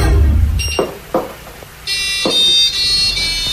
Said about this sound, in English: It's like a hidden code in the washing machine. On the washing machine, and it plays Advance Australia Fair.